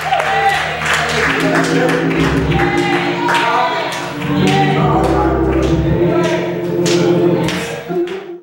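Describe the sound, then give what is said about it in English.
An audience claps their hands in a steady, loud rhythm, giving God a hand clap at a worship service, sharp claps ringing over sustained singing voices and held musical tones that continue throughout. “Give God a hand clap.”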